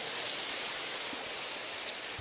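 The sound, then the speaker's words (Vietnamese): An audience at a Vietnamese-language church service applauds in a steady, dense wash of clapping that holds at an even level throughout, with no voices over it. “Cho một tràng tay hoan hô thưa anh chị em.”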